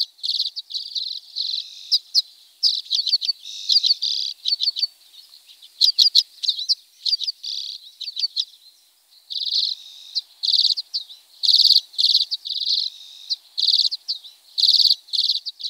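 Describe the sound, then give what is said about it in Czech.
A common redpoll (čečetka zimní), a small finch, calls and sings in quick, buzzy twittering bursts and short trills, fairly loud, repeating steadily with brief pauses and no voices. “Čečetka zimní patří k našim nejmenším pěnkavovitým ptáčkům.”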